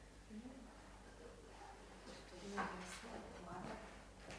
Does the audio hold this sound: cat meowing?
no